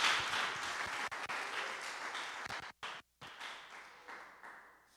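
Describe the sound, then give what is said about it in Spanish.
A crowd applauds with dense, overlapping claps, briefly cutting out twice near the end before fading away. “Un aplauso.”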